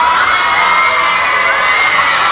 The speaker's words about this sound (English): Wow, loud screaming crowd. Ow. That wasn't good. What the hell was that all about? I blame you entirely. Is that your fan club? Screaming in terror? I would hope not.